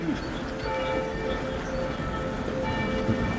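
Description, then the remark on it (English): Church bells ring steadily, their sustained tones humming over a dense, rumbling background wash, without any clear pause throughout. “As church bells rang out, I held up some photos from 33 years ago of my parents' apartment.”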